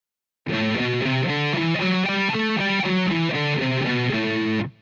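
An A Dorian minor scale, built on the second degree of the Ionian scale, played on a heavily distorted electric guitar, single notes climbing and then descending in an even, steady rhythm, loud with no talking.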